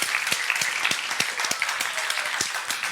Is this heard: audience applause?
yes